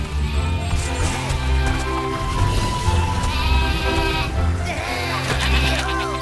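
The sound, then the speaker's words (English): Sheep bleat in wavering, nasal cries, several overlapping calls rising and falling over a steady, dense musical background that stays loud throughout. “End it, sheep.”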